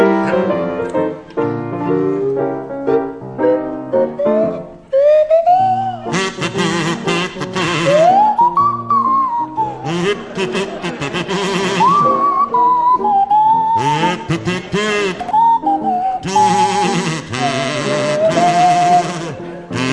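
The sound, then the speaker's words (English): Barry Cryer on a buzzy kazoo and Graham Garden on a sliding swanee whistle play a jaunty rendition of a song over a piano accompaniment, the whistle swooping up and down between the kazoo's loud, rasping phrases. “Now, Barry and Graham, would you please provide a rendition of … to feature Barry Cryer on the kazoo and Graham Garden on the Swanee Whistle.”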